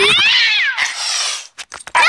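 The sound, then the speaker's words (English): A cat lets out a loud, drawn-out yowl that slides downward in pitch, then a harsh, raspy screech and a few short, sharp cries, with no talking. “chasing the cat is so cliche! You're better than that!”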